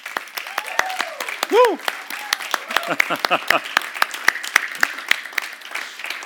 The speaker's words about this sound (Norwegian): Gi deg en applaus i dag.